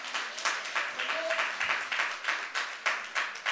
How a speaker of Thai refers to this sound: สุดยอดปรบมือค่ะ